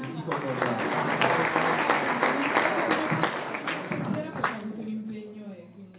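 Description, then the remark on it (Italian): An audience at an evening event breaks into applause, a dense wash of clapping for about four seconds with voices and cheering mixed in, then fading as a voice carries on at the end. “Oh, e allora facciamo l'applauso.”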